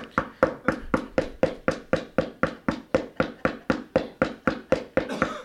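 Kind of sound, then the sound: impact, repeated knocking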